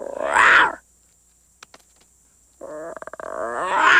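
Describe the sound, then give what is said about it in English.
The lion cub Simba lets out small, raspy roars: one short burst, a pause with faint clicks, then a longer, rising roar that stutters briefly before swelling. Fairly loud, with no talking. “Little roar.”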